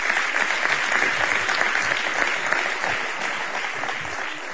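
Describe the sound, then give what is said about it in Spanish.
An audience at a sports gala applauds the Recreativo tennis club steadily, a dense wash of many hands clapping at an even, sustained level for several seconds without a break, with no voices standing out. “Un aplauso también para el club de tenis Recreativo, que también está ahí.”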